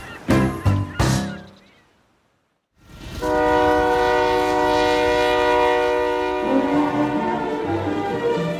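A train whistle gives two short blasts, falls silent briefly, then lets out a long, steady wail over the low rumble of a passing train.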